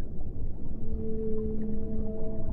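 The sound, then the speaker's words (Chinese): A drawn-out whale call, emitted by an unmanned C-type submarine named Haigou, formerly of the Japanese government, hums in steady tonal lines over a deep, constant underwater rumble, rising in partway through and holding until the end, with no voices present. “而且它为什么能够发出鲸鱼的声音？”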